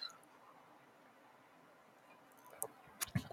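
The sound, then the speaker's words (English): Near-silence, then a quick cluster of soft, wet slurping and lip-smacking sounds as someone sips a lychee milk drink, with no talking. “I just took a sip.”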